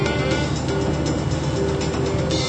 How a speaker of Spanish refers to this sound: Acompañen ahora a Philipp en su incómodo viaje en auto.